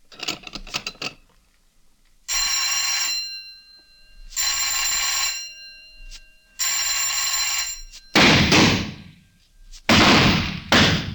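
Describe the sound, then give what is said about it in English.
A shooting range bell rings three times in loud, sustained, evenly spaced bursts after a few sharp clicks, signalling the start of the first half of rapid fire, followed by two heavy bursts of harsh, crackling noise. “Fire on third bell.”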